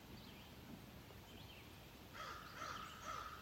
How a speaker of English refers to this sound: Moving to my physical sense of hearing, I hear a beautiful crow to my right.